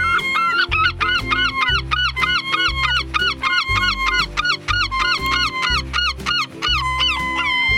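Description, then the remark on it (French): A large gull calls loudly and repeatedly, a rapid series of harsh, nasal yelping cries in a steady rhythm, continuous over a low background rumble. “Ce n'est pas une mouette, c'est un goéland.”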